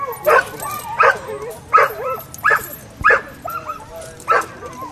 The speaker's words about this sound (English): Hey, guys, here come the dogs. Training days can get pretty noisy.